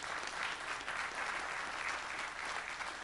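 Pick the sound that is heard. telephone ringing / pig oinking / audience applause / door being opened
audience applause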